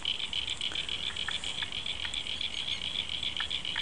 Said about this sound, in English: So, the abundance of water has brought about amphibious. Amphibious friends. So in the background you might be able to hear the frogs. Check it out.